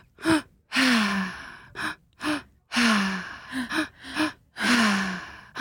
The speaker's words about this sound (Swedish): Berätta hur det funkar. Men genom att andas med en öppen mun, så här.